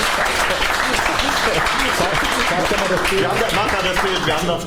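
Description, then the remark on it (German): A TV show audience claps steadily for nearly five seconds, a dense, even wash of many hands at constant loudness, with some crowd voices mixed into the applause. “Ihr habt jetzt, weil er euch so gebrieft hat, wieder geklatscht, war gar kein Grund zum Klatschen.”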